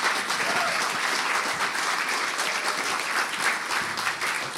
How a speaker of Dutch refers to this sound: Kunnen we de band gewoon een applaus geven?